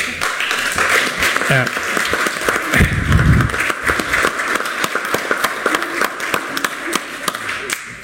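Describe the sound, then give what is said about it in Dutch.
An audience at a council meeting applauds a presentation steadily, dense overlapping claps forming a loud, sustained patter for several seconds, with a brief low thump midway and some murmuring voices underneath. “En aan het applaus horen jullie dat iedereen ervan genoten heeft.”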